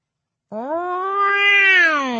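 A 23-pound orange and white house cat named Moishe, nestled on a pillow, lets out one long, drawn-out meow that rises and holds steady, fairly loud, with no other sounds around it.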